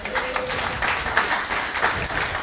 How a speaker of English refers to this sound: Cool. Excellent. Applause.